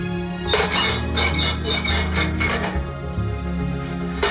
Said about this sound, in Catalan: De debò que aquest soroll era el de la porta? Això de veritat, que hem de veritat, de debò. Sí, no era un efecte, de debò, eh? No, això era la porta d'entrada.